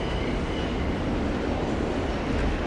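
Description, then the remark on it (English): A dense, steady, loud roar of two subway trains going in opposite directions as they pass each other on neighboring tracks, holding a constant wash of metallic rattle and rushing noise throughout with no voices. “Two subway trains going in opposite directions pass each other on neighboring tracks.”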